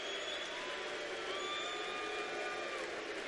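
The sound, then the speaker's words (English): A large crowd at a political rally yells "Lou" for candidate Lou Barletta in a long, drawn-out chorus, many voices holding one sustained call together. The roar is steady and dense throughout. “They're not booing him. They're yelling Lou.”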